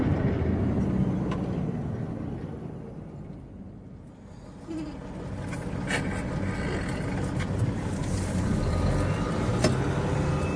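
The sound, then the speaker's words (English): A steady, broad rumble of a car rolling along Route 66, the old interstate, after leaving I-15 to get around a traffic jam, with continuous road and engine noise that dips briefly before building back up. No one speaks. “He leads her off I-15 and onto Route 66, the old interstate, and they breeze around the traffic jam.”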